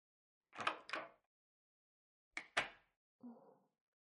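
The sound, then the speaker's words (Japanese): Two pairs of sharp knocks at a door, separated by a pause, followed by a brief muffled rattle as the door is opened after no reply, with no talking. “返事がないからドア開けるよ。”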